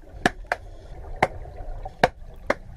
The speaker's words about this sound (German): Zum Schluss zu Meerestieren, die sich unter Wasser verständigen. Wale, die singen ja, Robben pfeifen auch und die machen noch was, die klatschen mit ihren Flossen und das hört sich dann so an.